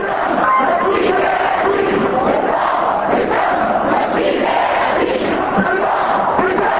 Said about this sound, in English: Demonstrators marched in central Amman carrying Qurans, banners of condolences, and pictures of Sheikh Yassin. They shouted, "Our blood, our soul, we sacrifice for Sheikh Yassin, for Palestine, for our Muslim brothers."